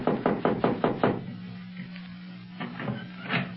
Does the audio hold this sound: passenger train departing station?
no